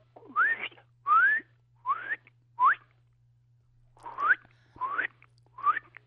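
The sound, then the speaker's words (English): A person whistles an imitation of a bird's song: seven short rising whistled notes, paired with breathy air, in a steady halting rhythm with a brief pause midway, clear. “Can you do a little rendition of it?”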